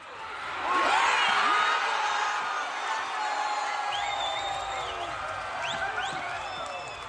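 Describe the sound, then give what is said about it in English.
A large crowd of Fiji supporters at HFC Stadium roars and cheers continuously during the Fijian Drua versus Melbourne Rebels rugby match on Saturday, April 1st, a dense wash of many voices with shouts and whistles rising out of it, loud and sustained for the whole stretch. “ladies and gentlemen, is what the overwhelming support of Fiji crowd sounds like during the Fijian Drua versus Melbourne Rebels rugby match that took place at the HFC Stadium on Saturday, April 1st.”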